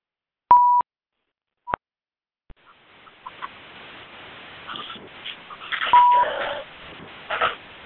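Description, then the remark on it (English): A few short electronic tones sound close together at the start as a phone conference line is unmuted for questions, followed by faint open-line background noise with muffled shuffling and another brief beep. “I'm unmuting the phone so you can ask questions.”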